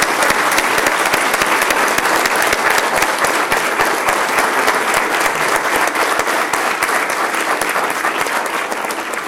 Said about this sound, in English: And Gunslingers, if you want to stand up, and let's give you a nice round of applause for all your accomplishments.